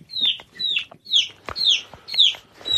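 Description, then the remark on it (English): A pet chicken, Hey Hey, clucks loudly and insistently, a string of sharp, repeated squawking calls coming in quick bursts, with no talking over it. “You can hear Hey Hey making quite a noise.”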